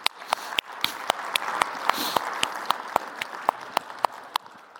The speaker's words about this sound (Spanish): ¿por qué no le damos un aplauso, hermanos, a ellos?